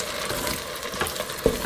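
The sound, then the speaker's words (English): Steady sizzling of food frying in a pan as spaghetti sauce is poured in and mixed, with scraping and clinking as it is stirred, including a sharper utensil knock near the end. No voices. “Go ahead and mix that in.”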